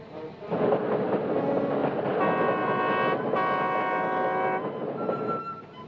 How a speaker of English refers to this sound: The man gets to his feet and gapes at the oncoming train.